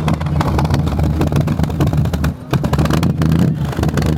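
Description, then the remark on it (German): A vintage vehicle's engine runs loud, a steady low rumbling drone that dips briefly midway before picking back up, at a classic vehicle gathering on Marktstraße in the old town of Duderstadt, Germany. “Aus Hannover, Leipzig und auch aus der Region kamen die Oldtimer nach Duderstadt.”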